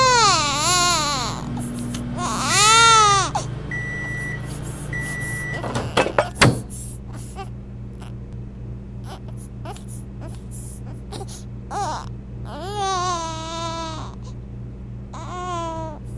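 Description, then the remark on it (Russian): A baby cries in loud, wavering bursts, then settles into softer babbling and whimpers, with another crying outburst later. A steady appliance hum runs underneath, with a couple of electronic beeps. “О, как люблю я эти звуки малышей.”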